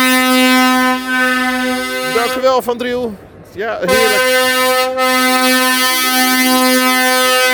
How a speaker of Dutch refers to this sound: Het valt nu wel weer mee met de klaksons, moet ik zeggen. Maar ja, het aantal vrachtwagens dat hier natuurlijk nog mee staat te klaksoneren op het terrein.